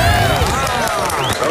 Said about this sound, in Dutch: En dit applaus is natuurlijk voor jou!